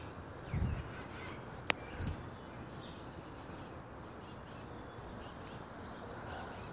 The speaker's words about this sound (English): Flying around, chirping, talking to each other, passing on the news.